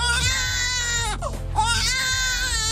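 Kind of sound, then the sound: human body sound, baby crying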